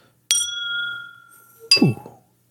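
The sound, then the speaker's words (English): Two glasses of rum clink together in a toast with a bright, ringing chime that sustains and slowly fades, followed by a second clinking knock and rattle, loud with no talking. “Cheers, man. Cheers.”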